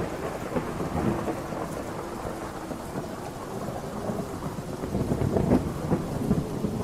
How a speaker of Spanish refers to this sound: Era una noche fría y húmeda de invierno, una de esas donde la lluvia caía pesadamente sobre la ciudad. El eco de las gotas golpeando el techo metálico del edificio de la morgue era un sonido constante, casi hipnótico.